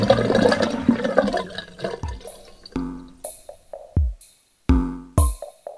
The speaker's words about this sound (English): I wish I could see the water flushing down. I don't know, someday I might.